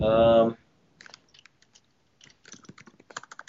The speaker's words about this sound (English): So much typing. There is furious typing.